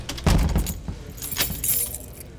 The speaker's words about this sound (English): The other thing that stands out is the sound of heavy doors opening and closing. It's constant.